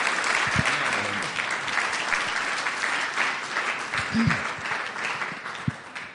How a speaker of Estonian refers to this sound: Nii et tänu täheks, et sa oled meid nii palju aidanud, ma tahtsin kinkida selle raamatu sulle, nii et anname Jumala mehele üks aplaus.